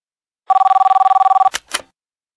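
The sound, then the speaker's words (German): A telephone bell rings in one rapid, trilling burst lasting about a second, followed by two short clunks like a handset being picked up. No one speaks. “Telefongespräch.”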